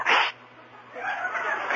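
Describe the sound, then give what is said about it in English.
A single sharp sneeze bursts out at the start, loud, followed by a softer murmur of room noise or muffled voices trailing after it. “There we go again. Hey, speaking of sneezing”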